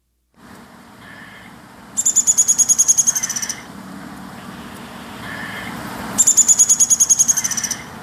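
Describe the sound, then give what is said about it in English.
A downy woodpecker gives its scolding, warning call: two rapid, slightly descending whinnies of high, sharp notes, each lasting over a second, separated by a pause, heard clearly over a steady low outdoor hum. “Ah, that's the call. Right. So their drumming, but I do have their call. So okay. That's the downy woodpecker.”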